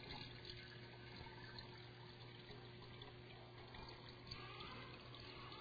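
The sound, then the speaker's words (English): Water pours steadily and continuously into a vessel set inside a jar, filling it until it overflows, a dense, even splashing rush with a faint low hum beneath it, moderately loud, with no voices. “This vessel then, the last one inside this jar, is full. Overflowing.”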